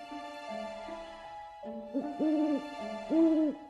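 An owl hoots a few times, with two louder, drawn-out hoots near the end, set against a steady, humming musical drone. No one speaks.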